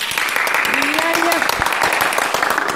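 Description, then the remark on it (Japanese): Steady, dense clapping from a group at a radio pre-concert welcoming a guest flute player fills the whole stretch, loud and continuous, with a brief voice rising faintly underneath partway through. “拍手の響きがすごい。”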